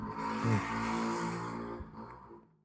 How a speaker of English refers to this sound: Little moped going by. Pizza delivery on its way to you.